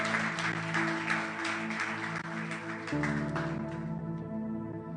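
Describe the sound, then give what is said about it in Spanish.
A church audience gives a round of applause to the Lord, a dense, steady burst of clapping over sustained musical tones, the clapping thinning out toward the end while the music continues. “Venga, dar un aplauso al Señor.”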